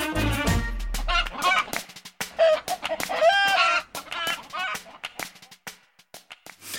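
A hen clucks in a run of short, irregular bursts with a few higher squawking notes, clear, with no one talking over it.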